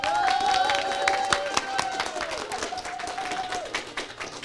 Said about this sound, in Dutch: En ik zou jullie willen vragen een heel groot applaus voor de debaters van vandaag van het Metis Montessori Lyceum. Laat je horen.